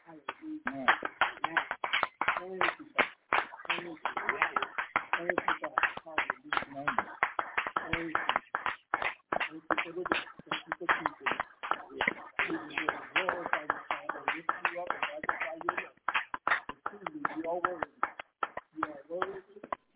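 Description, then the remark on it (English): An audience claps together in sustained, dense applause as a hand clap of praise to the Most High: many sharp overlapping hand claps, steady and loud throughout, with voices faintly mixed in underneath. “Let us give the Most High a hand clap of praise.”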